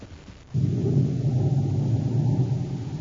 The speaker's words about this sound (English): As the storm builds in violence, Buzz and Abby stand in the darkened office shack, looking out the window toward Baccarati's small, sleek atmosphere ship. An occasional flash of lightning brings every inch of the prison yard into full brilliance.